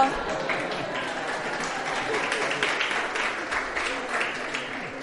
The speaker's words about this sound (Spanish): Me casé. ¡Un aplauso!